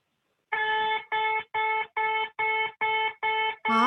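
A beeping ball used in beep baseball emits a steady run of about eight loud, identical electronic beeps, each a bright buzzy mid-pitched tone with rich harmonics, spaced evenly in a quick, regular rhythm.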